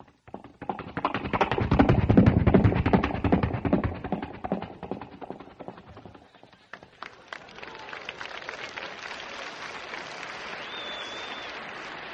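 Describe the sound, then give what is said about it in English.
A voice imitates a galloping horse into a regular Shure microphone with rapid, rhythmic clip-clop clicks, loud at first, then fading softer and more scattered, with a brief thin whistle near the end. “Horse is galloping. Here comes a horse.”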